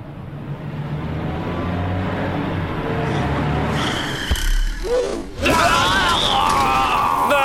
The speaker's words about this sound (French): J'ai roulé sur ce trampoline camouflé et la voiture s'est retournée. Ah, ma radio s'est aussi cassée dans l'accident.